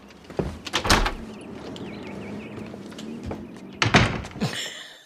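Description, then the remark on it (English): A door closes gently, with a couple of soft thuds and latch clicks early on and another muted clunk near the end, over a low background hum with no talking. “Not a slam, okay. Just a gentle closing.”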